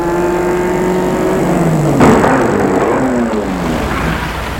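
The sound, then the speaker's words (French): A black Rolls car's engine hums and winds down as it slows to stop between two children and two men, then a brief rush of noise and the motor keeps idling and shifting in pitch. No voices. “Et là, tout à coup, vient vers eux une Rolls d'une roue transversale, une belle Rolls noire. Elle se met entre les deux enfants et les deux tueurs.”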